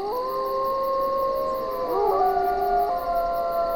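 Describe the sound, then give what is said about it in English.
A wolf pack in Yellowstone howls together, several long sustained voices overlapping and gliding in pitch, one rising above the others midway, steady and clear against a faint background hiss with no talking. “You've got packs of wolves which howl.”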